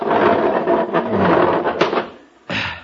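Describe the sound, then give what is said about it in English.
A love seat is pushed across the floor toward the fireplace with a long, rough, grinding scrape lasting about two seconds, then a brief pause and a shorter, sharp scraping shove. “Step aside and I'll push the love seat.”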